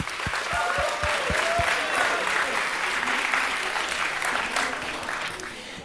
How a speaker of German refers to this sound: Dankeschön, großen Applaus für euch!